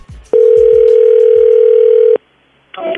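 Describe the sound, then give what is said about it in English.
A single long ringback tone on an outgoing phone call, a loud steady buzzing hum lasting nearly two seconds, followed by a short silence before a voice starts to speak. “I'm going to call her right now.”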